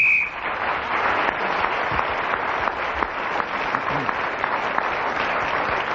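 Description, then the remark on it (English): A brief, shrill whistle blast at the very start, ending a round of a panel game, gives way to loud, sustained applause and cheering from an audience that carries on to the end. “So, Clement Croy got a large number of points in that round, including the one for speaking as the whistle went, and he has moved forward, but Kenneth Williams is still in the lead, and Peter Jones begins the next round.”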